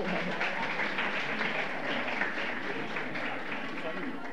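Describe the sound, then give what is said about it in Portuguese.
A crowd applauds steadily for several seconds for a candidate for president of the Parlamento Jovem (Youth Parliament), a dense, even wash of many hands clapping at once, fairly loud throughout with a murmur of voices mixed in. “Então vem cá, aí ó, palmas para ele.”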